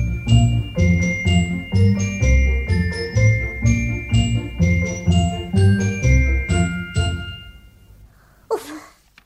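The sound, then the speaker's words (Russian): A small bell jingles in quick, bright, rhythmic strikes, ringing clear for several seconds before fading, followed by a brief breathy puff. “Ну-ка, зайчик, попляши, всех на свете рассмеши, колокольчик зазвени, дили-дили, динь-динь-динь.”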